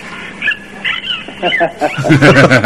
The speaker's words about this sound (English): And just before I go, I've got a goodbye from a couple of my dolphin friends in Florida. I went swimming with dolphins, and maybe Jenny and Carl could just say goodbye to your listeners. Here they are.